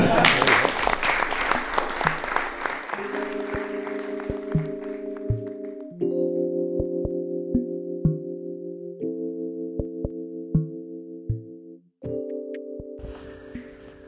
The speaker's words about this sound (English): And so just wanted to give a huge round of applause to everyone for opening up, just being honest, being vulnerable, and hopefully killing some deer this weekend.